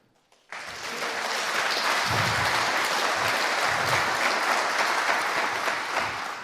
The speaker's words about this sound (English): So give him a huge applause.